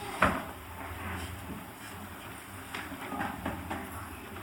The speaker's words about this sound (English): Maybe we can close those two doors, everyone can come in, because the traffic will move quite a lot in the corridors now.